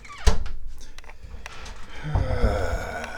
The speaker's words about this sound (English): So we gotta go out and see what this kitty is yanging about. And maybe, obviously, do some kitty business. So we open the door. Oh, here's a kitty right here.